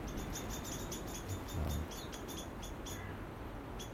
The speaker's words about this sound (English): There's a jackdaw now. And they all, I mean, I don't think jackdaws would do anything to the young.